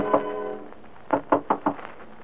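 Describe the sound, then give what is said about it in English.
Four quick, evenly spaced knocks on a woman's door, sharp and moderately loud, following a short sustained tone at the start; no one speaks. “a little dewy-eyed, a little dazed, a little impervious to the knocking on her door that finally rouses her from love's sweet coma.”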